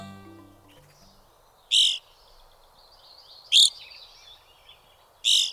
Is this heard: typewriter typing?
no